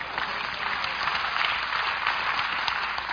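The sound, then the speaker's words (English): A crowd applauds steadily for a few seconds, dense overlapping claps forming a continuous wash of sound at moderate loudness, with no talking over it. “Come on, y'all go with me. Clap before I go.”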